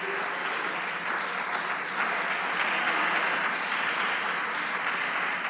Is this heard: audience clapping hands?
yes